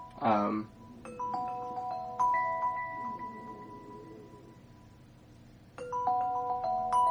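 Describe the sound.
A computer alarm on Windows rings as a sequence of bright, sustained chime tones that ring out and overlap, then repeat after a pause, growing gradually louder to near full volume. A brief voice is heard at the very start.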